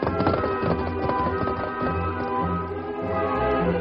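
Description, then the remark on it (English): Horse hooves clip-clop in a quick, steady rhythm as a horse is ridden away at speed toward a ranch, the hoofbeats moderately loud over a continuous tonal background, with no speech. “Me go quick with horse to bar these spray.”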